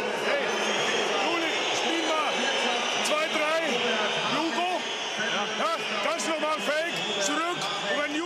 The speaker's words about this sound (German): Das waren Robert Habeck und Nancy Faeser beim Handballspiel. Man hört deutlich die Pfiffe.